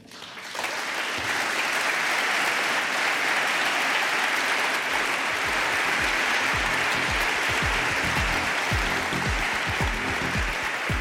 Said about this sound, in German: Langer Applaus für Sönke Neitzel und seinen Vortrag mit dem Titel »Die Bedeutung des 20. Juli 1944 für die Traditionsbildung der Bundeswehr in Zeiten neuer sicherheitspolitischer Herausforderungen«. Er hat ihn am 19. Juli 2026 gehalten in Berlin.